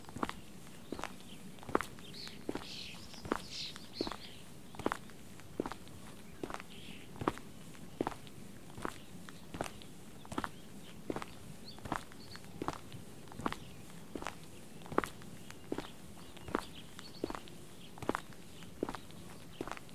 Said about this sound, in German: dann lass uns jetzt wieder rausgehen. Den Trampelpfad zurück auf den Weg und direkt rüber zur Aussichtsplattform.